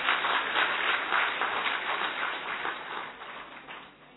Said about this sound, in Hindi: बजाओ जोर से तालियां, अच्छी तरह से बजाओ ना।